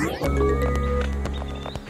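A horse gallops, with loud irregular hoof thuds over a steady tonal backdrop and a high neigh rising near the end. It is short, with no speech.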